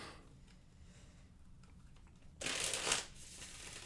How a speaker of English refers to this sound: Shuffle them sweet cards. They're very thick and hard to shuffle. Brand new deck. I know. You got to break this in.